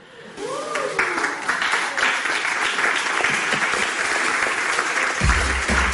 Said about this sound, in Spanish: Aquesta era la reacció que es va sentir a la sala on es va presentar la imatge, aplaudiments que presagiaven una bona rebuda i que, de fet, no es van equivocar.